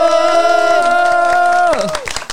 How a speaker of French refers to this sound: Les autres bruitages comme les applaudissements et les « oh » étaient faits par nous tous.